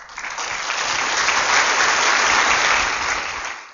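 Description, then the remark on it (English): A crowd at a panel claps steadily for a few seconds, a dense crackling wash of hand claps that swells quickly, holds loud and even, then tapers off at the end. No one speaks. “And there were a lot of applause lines like that.”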